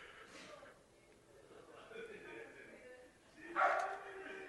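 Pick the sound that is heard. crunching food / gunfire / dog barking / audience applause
dog barking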